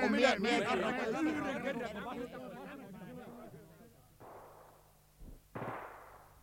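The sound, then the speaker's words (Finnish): Voices talk at first, then a few muffled bangs of gunfire pop out separately with short pauses between them, a quiet exchange of shots heard from the front line. “Linjasta kuului hiljaista laukausten vaihtoa.”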